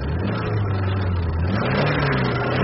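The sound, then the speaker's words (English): A car engine runs steadily and loudly, its low droning tone rising slightly in pitch as it accelerates away. No voices are heard over the continuous motor rumble. “Do you like my car?”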